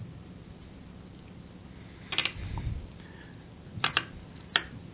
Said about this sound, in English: Who's typing? Who's typing? I'm not typing. Sounds like someone's chewing on their microphone.